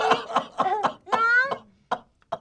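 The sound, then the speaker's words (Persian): Someone eating a meal at the table coughs again and again in short harsh bursts, with a strained, groaning breath partway through, then two more isolated coughs after a brief pause. “تو چرا اینقدر سرفه می‌کنی؟”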